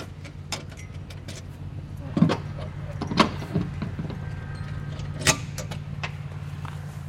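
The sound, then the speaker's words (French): A heavy tunnel door, one of the doors placed about every 250 metres along the tunnel, is worked open by a person with a few sharp metallic clunks and latch clicks spread over several seconds, over a steady low mechanical hum. “Du coup, maintenant, je vais ouvrir la porte.”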